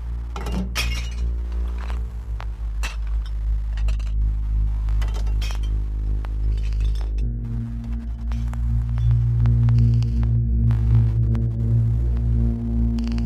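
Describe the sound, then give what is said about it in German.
Glass shatters repeatedly into shards, a run of sharp crashes and tinkling fragments over a steady low rumble that swells louder in the second half. No one speaks. “Und die Schönheit liegt in Scherben.”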